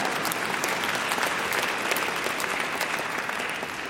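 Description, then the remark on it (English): An audience applauds steadily for about four seconds, a dense, even wash of many hands clapping at a constant loudness with no voices standing out. “God, yeah, you can even clap if you want here.”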